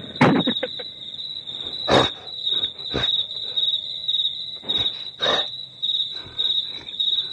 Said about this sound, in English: When we let the crickets play too long, some of the other forest animals come out.